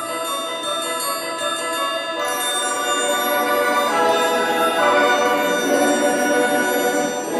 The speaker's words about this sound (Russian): Раздался звон серебряный.